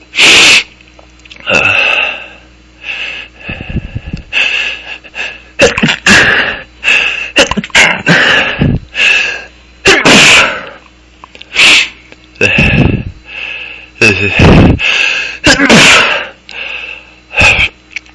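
A long sneezing fit caused by pepper tossed up in a cloud and inhaled: one explosive, loud sneeze after another in an irregular rhythm, with sharp gasping inhales and sniffles between bursts and no speech.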